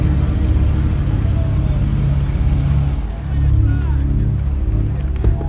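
A car engine rumbles steadily, a deep continuous drone that dips briefly midway before picking back up, with faint voices mixed underneath.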